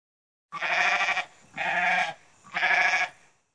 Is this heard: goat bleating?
yes